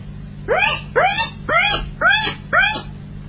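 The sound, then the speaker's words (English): Someone imitates a guinea pig with five short, high, squeaky wheeks in a steady, evenly spaced rhythm, fairly loud, with a faint low hum underneath. “you want to hear my guinea pig impression?”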